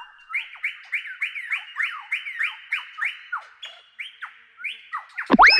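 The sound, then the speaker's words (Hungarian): A superb lyrebird mimicking an alarm: about a dozen rapid, swooping electronic-sounding whistles repeat in a steady pulsing rhythm, ending with a sudden harsh, loud burst. No voices. “A műsorszám pompás landfarkú madár megjelenítést tartalmazott.”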